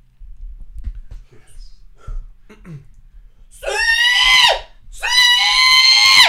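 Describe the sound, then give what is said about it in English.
A person imitates a pig call with two long, loud, high-pitched squealing cries, the first dipping at its end, after a few seconds of quiet breathy noise and low murmurs. “it was a really good call of pig.”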